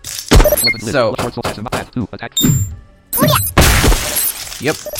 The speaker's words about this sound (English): Yep, so you gotta use the bats to break the tubes. You can't use the swords, which makes sense.